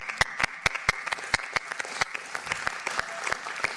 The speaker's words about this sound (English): And we really much appreciate it, you and your other colleagues. You deserve a very big round of applause from all of us once again, even though we have done it before.